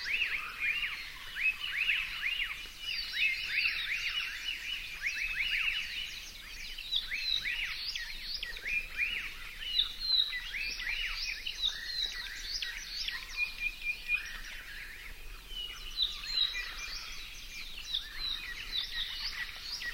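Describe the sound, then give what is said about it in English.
A dense May dawn chorus of Hawaiian forest birds in the Alakai Wilderness on Kauai, many overlapping chirps, trills and whistles from several directions at once, steady and continuous with no voices. “We're listening to a May Dawn chorus in the Alakai Wilderness.”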